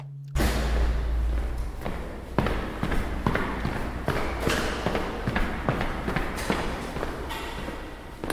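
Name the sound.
footsteps running down stairs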